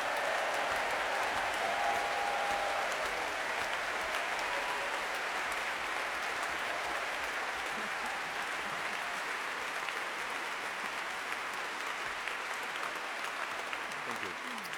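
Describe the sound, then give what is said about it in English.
A large BBC Family Proms audience applauds and cheers for a guitarist steadily for about fifteen seconds, a dense, even wash of clapping with a brief whistle early on and no break in the noise. “Let's give him a big cheer.”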